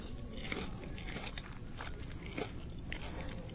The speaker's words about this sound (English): Nice, crisp, nice flavor of butter and garlic. They're wonderful. All right, I'll try one. Here we go, eating a cicada.